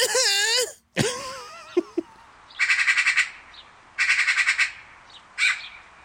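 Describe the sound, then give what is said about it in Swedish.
A person imitates a magpie's call: a few wavering squawks, then three loud, harsh rattling chatters, each a rapid burst of raspy notes separated by short pauses. “Utan en skata, ja, du kan väl, kan du försöka ta och imitera en skata?”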